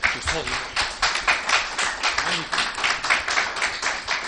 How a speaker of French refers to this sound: Je crois qu'on peut applaudir cet homme.